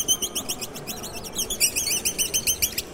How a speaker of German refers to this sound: tatsächlich nur einen Luftballon in der Hand und hat jetzt da die Luft raus zwitschern lassen, sodass es wie ein kleiner Vogel klingt